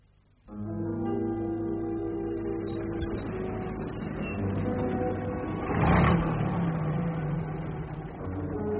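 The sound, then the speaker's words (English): A car engine starts up and runs with a steady rumbling hum, briefly surging louder near the end before settling back to an even idle. No one speaks. “Why don't you put your car in the coach house?”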